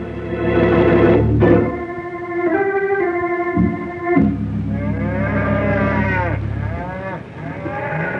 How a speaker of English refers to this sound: What's the matter with them there cattle? I don't know. Something's spooking him, that's all. That's for sure. Can't imagine what it is, though. Not much to spook cattle in the wintertime.